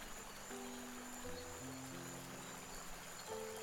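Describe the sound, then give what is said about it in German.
A steady, gentle babble of stream water flows continuously, soft and fairly quiet, with low sustained musical tones shifting underneath. No one speaks. “Du hörst die Vögel singen und das Plätschern des Wassers.”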